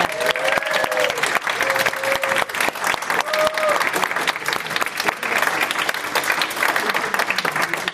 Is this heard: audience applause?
yes